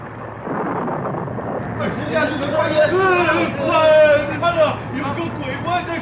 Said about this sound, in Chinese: 一小时又一小时，他们在暴风雨里挣扎着，大约在整夜里四更天，耶稣在翻腾的海面上行走。